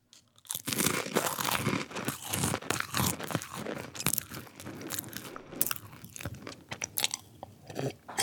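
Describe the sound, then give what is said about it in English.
Crisp crunching and chewing of crackers, a steady run of irregular brittle snaps and grinding bites lasting several seconds with no talking. “brought out some crackers.”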